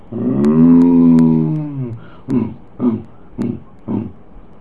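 A lion lets out one long, deep, moaning roar that slowly falls in pitch, then follows with four short, grunting huffs at steady intervals, loud with no other sounds.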